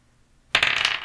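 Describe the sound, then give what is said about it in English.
A twelve-sided die is tossed onto a hard surface, clattering in a quick burst of rattling bounces before it settles, landing on nine. No one speaks. “In this audio, I have a 12-sided dice. I really like the 12-sided dice.”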